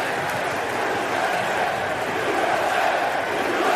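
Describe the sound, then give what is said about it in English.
A huge New York stadium crowd roars continuously as President George W. Bush strides to the mound to throw out the first pitch, a dense, steady wall of cheering voices that stays loud throughout, swelling slightly toward the end with no single voice standing out. “Bush confidently strode to the top of the mound wearing an FDNY quarter zip to throw out the first pitch, the New York crowd unleashed a loud, cathartic roar.”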